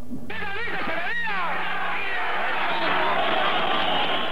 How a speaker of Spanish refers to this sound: Gritos, chiflidos y abucheos de un sector del estudiantado opacaron las palabras del discurso de Echeverría.